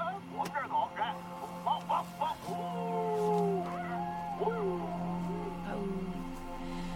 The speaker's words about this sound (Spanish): haz que tus perros ladren de nuevo, por favor. Que ladren, sí.